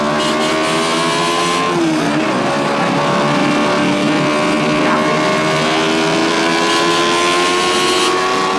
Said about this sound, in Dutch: Ongeveer een uur later, Den Bosch. Daar maakt het paar een tochtje per boot door de binnendiepte.